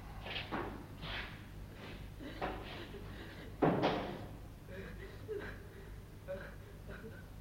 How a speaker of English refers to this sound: Greaves locks the door, watching Davis through the spy window.